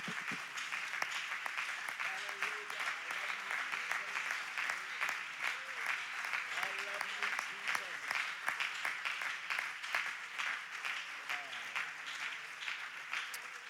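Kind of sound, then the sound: crowd, audience clapping hands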